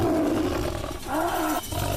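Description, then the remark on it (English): A very bad CGI Siberian tiger roars loudly and continuously in a movie scene where Neil Breen fights it: a deep rumbling growl that swells and dips over two seconds, with a harsh, gritty texture and no talking. “It is Neil Breen fighting a tiger, a very bad CGI tiger.”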